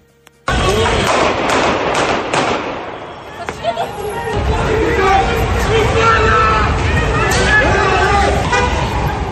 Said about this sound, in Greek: Το ακούσαμε. 4 πυροβολισμοί. Είναι 12.30 το μεσημέρι στην Πατησίων.